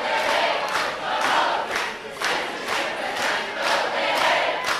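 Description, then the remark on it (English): A large crowd of students chants in unison outdoors at a rain-soaked rally on a university quad during a mass classroom walkout, loud and sustained, with rhythmic bursts of shouting repeating roughly twice a second over a constant roar of voices. “After attending a rain-soaked rally on the quad,”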